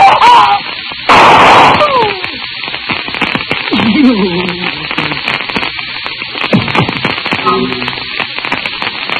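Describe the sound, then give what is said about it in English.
A single loud gunshot cracks out early, a short burst of noise, followed by crackling static and brief wavering vocal cries that rise and fall. “Put down that gun!”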